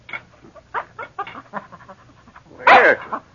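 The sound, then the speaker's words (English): A small mongrel dog named Snapper gives a series of short, whiny yips and barks, building to one louder, sharper bark near the end, with no talking, while sitting beside a man's chair at breakfast wanting food. “A small mongrel dog sat beside his chair, looking at him expectantly.”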